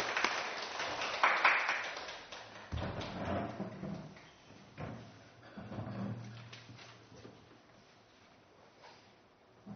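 A crowd applauds at a service at Tamagawa Church, welcoming a guest pastor and a guest singer: a dense patter of many hands at its fullest in the first couple of seconds, then thinning and fading into scattered claps, low hum and a few soft knocks.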